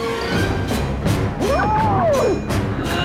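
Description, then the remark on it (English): A man smashes through ice with a series of about six sharp, evenly spaced cracking blows over a dense, rumbling backdrop, while a whistling tone swoops up and back down. “He smashes it through the ice.”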